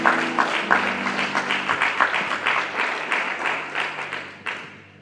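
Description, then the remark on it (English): A crowd claps steadily for several seconds as praise to God for the word, a dense, lively round of applause with sustained tones humming underneath, tapering slightly toward the end. “Let us give God a hand clap and praise for the word.”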